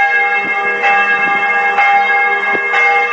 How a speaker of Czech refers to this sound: Upravo je deo razgovora o ćutanju ključnih državnih institucija pa i crkve bio obojen zvukom zvona sa hrama Svetog Save, pored koga se nalazi Narodna biblioteka, pod čijim krovom se odvijala konferencija o suočavanju sa prošlošću.